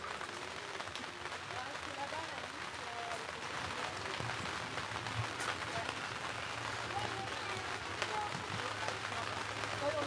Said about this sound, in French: Enfin, peut-être pas une minute, mais au moins 10 secondes. Et écoutez cette pluie.